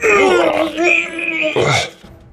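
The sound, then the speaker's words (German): A voice imitates a creature's scream during a tabletop role-playing game, the creature being struck in combat and having no visible mouth: a loud, strained, wavering wail that slides in pitch for about two seconds, ending in a harsh rasping burst before cutting off. “Dring tief ein, du hörst einen Schrei aus dem nicht vorhandenen Mund der Kreatur.”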